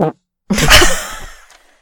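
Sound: fart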